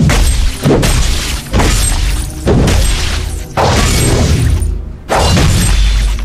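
An axe bashes down a door: about six loud, heavy blows at uneven intervals, each a splintering crash of wood that rings on briefly before the next strike. No one speaks.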